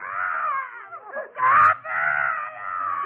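A baby cries without pause in high, wavering wails, rising to a louder, shriller outburst midway before settling back into steady, sobbing crying.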